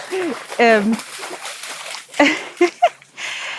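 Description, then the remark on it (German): Sloshing splashes of a dog jumping into water, with bursts of watery noise mixed in among a person's speech. “Ich weiß nicht, ob du es platschen hörst. Milo ist gerade ins Wasser gesprungen.”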